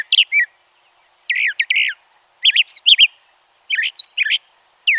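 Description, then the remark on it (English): A brown thrasher sings a series of short, varied, complicated phrases of rich chirps and whistles separated by brief pauses, clear, over a faint steady high hum. “But others, like that of its cousin, the brown thrasher, are far more complicated.”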